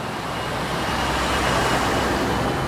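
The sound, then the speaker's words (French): Continuous road traffic on the périphérique ring road, which has a 70 km/h speed limit: a dense steady roar of cars and heavier vehicles with a low engine rumble, loud and unbroken throughout, with no voices. “Alors, les 70 à l'heure sur le périph?”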